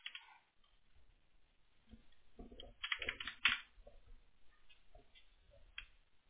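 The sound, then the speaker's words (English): A run of crisp computer mouse and keyboard clicks as someone tries clicking a profile link in profile settings, irregular in rhythm with a brief busier burst midway, fairly quiet with no voices. “Clicking on it, but it ain't going nowhere.”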